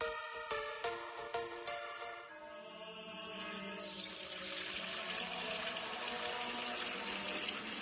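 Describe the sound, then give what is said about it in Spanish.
Fuente Umbría spring water pours into a container, its ringing tone climbing as the vessel fills, then widening into a steady, full gushing rush. No voices are heard. “Padre Gilberto, ¿qué hace? Hermano Pedro, es que no nos quedaba agua bendita.”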